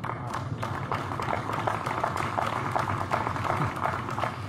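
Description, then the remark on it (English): Tepid applause from a crowd at Zeldin's announcement of a draft deregulatory policy: a steady, modest patter of scattered hand claps that holds at an even, subdued level for several seconds without building or swelling. “Somewhat tepid applaud there, I would say.”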